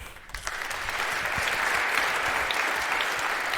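Steady audience applause, a dense wash of many hands clapping that swells slightly after the first moment and holds at a fairly loud, even level throughout.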